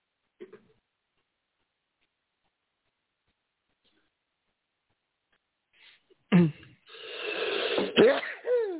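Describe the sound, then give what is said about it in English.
After several seconds of near silence, one loud sneeze bursts out sharply, trailing into a drawn-out voiced exhale with a faint catch at the end. “Bless you.”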